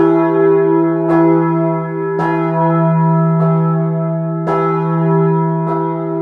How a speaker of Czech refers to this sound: protože ten zvon samozřejmě má dva tuny, lítá to tam a zpátky, takže je to i docela děsivý poprvé, ale člověk se na to zvykne.